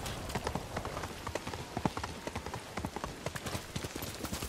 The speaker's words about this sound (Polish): Deszczyk pada.